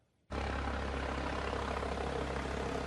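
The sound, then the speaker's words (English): A helicopter landing by Lake Annecy in southeastern France: after a brief moment of quiet, a loud, steady roar of engine and rotor noise cuts in abruptly, a deep droning rumble under broad hissing wash that holds to the end. “A helicopter lands by Lake Annecy in southeastern France, a site of natural beauty that's now cordoned off and being treated as a crime scene.”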